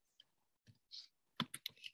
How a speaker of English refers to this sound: Now typing in here mission